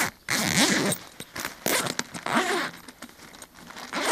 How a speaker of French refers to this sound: Première particularité pour l'ouvrir, les fermetures éclair finissent dans le dos. Ça, c'est pour éviter le vol, en fait, tout simplement. Vous pouvez l'ouvrir.